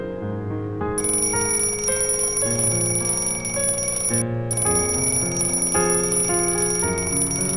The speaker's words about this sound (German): Der Wecker hat schon zweimal geklingelt.